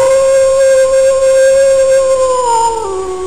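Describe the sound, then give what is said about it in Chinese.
A voice imitates a wolf's howl, given by mistake in place of a tiger's roar for the Year of the Tiger: one long, loud, steady wail held for about three seconds, then sliding down in pitch at the end, with no talking. “这好像不是虎，是狼，好像叫错了哈。”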